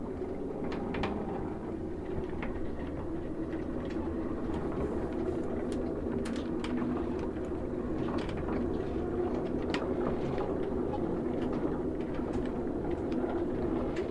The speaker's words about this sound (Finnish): Niin tää itse vene on tosi suojassa. Masto vaan tuulessa vinkuu. Tästä kun mastosta pitää kiinni, niin tuntee miten se värisee.